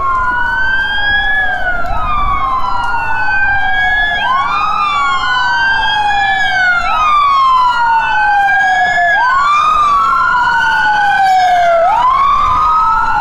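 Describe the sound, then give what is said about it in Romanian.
Several police and ambulance sirens wail loudly and continuously, their rising and falling tones overlapping out of sync over a low rumble of road traffic, as they arrive at the scene of an earthquake with its epicentre in Banloc. No one speaks. “Primii care au sosit la fața locului au fost polițiștii și medicii de pe ambulanță.”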